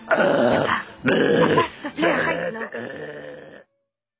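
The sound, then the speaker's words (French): Someone at a Chevy's Mexican restaurant burps the alphabet: four long, rough, drawn-out belches in quick succession, each voiced and gravelly like a groaned letter, loud throughout, then abrupt silence. “Regarde bien, je peux te roter l'alphabet.”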